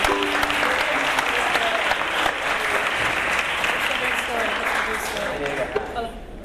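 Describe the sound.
A crowd applauds steadily for several seconds, a dense, sustained wash of clapping with faint voices mixed in before it tapers slightly at the end, welcoming a woman called up to sing.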